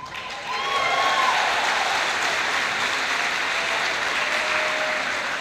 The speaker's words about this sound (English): Big round of applause.